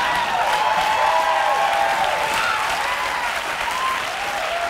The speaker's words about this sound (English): I was one of the ones booing. Were you actually booing? I was one of the ones booing in the background.